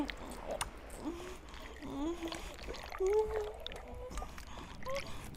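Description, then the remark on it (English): Water churns and splashes steadily for several seconds, a rushing, sloshing movement as someone is dragged quickly through deep water by a monster, with strained vocal sounds and groans rising over it. “He's darting through this water so quickly.”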